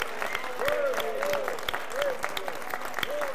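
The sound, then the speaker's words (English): An audience claps and shouts to God together in worship, a dense wash of hand claps with raised voices and whoops rising over it, loud and continuous throughout. “Now let's declare that he's in our midst by clapping and shouting to God.”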